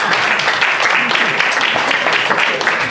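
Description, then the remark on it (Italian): Sustained audience applause for a colleague being honoured, a dense, steady wash of many hands clapping at a loud, even level for the full stretch, with faint voices mixed underneath. “Un applauso, grazie, complimenti,”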